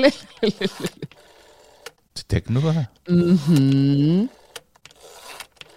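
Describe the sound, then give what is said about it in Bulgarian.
After a short spoken question, a voice imitates a rotary phone dial in two drawn-out, whirring vocal sweeps that rise and fall in pitch. A few faint clicks follow. “Ве прашавме и ги очекуваме вашите одговори за тоа што мислите, кои беа основните правила според Бонтон за вртење на фиксен телефон.”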